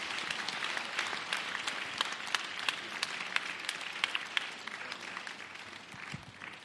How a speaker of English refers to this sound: Why don't you put your hands together? Applaudissons. Come on, give it up for Jesus. Applaudissons Jésus.